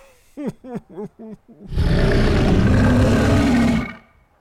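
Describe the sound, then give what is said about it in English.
A voice imitates a dragon's roar through a megaphone: five short, pitched growling grunts, then one loud, harsh, sustained roar lasting about two seconds before cutting off. “That was an impressive impersonation. People can do anything with a megaphone these days.”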